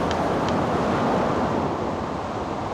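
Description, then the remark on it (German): Sea waves crash in a constant roaring wash, blended with gusting wind, loud throughout with no voices. “Du gibst erst Ruhe, wenn die Wellen mich verschluckt haben.”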